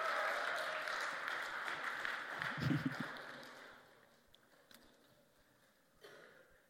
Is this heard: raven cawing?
no